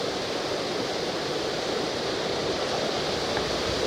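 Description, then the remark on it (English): A steady, even rush of wind blowing through alder trees above a creek, blending with the creek's flowing water; continuous and moderately loud for the whole stretch, with no voices. About 10 o'clock. “The wind is blowing, leaning up into the alder trees above the creek.”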